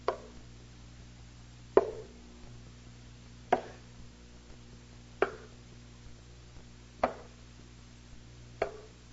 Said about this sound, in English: You're home alone, and there's a killer in the house. And you hear his footsteps on the stairs.